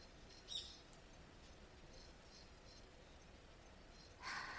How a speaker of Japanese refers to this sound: ほら、よく聞いてみてください。鳥や虫の声が心地いいでしょう？